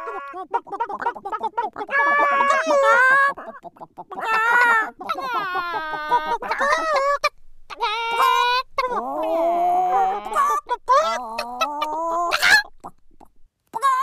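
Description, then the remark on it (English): Five voiceover artists take turns imitating chickens in a contest to be the best chicken, with drawn-out crowing calls and choppy clucking bursts, loud, overlapping in a playful, competitive back-and-forth. “Here in a rare display of vicious, competitive behaviour, five voiceovers are gathered in battle to be the very best chicken.”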